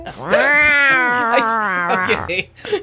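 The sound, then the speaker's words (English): A cat's loud, drawn-out mating yowl, wavering up and down in pitch for nearly three seconds before breaking off into a short, rough cry. “I'd rather go back to stories about butt-fucking than listen to the noises of cat's porn, okay?”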